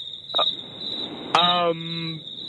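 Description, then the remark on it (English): Recorded crickets are played, chirping in a steady, unbroken high-pitched drone that runs the whole time, fairly loud, with a short voiced sound cutting in briefly partway through. “Do you know we were playing crickets?”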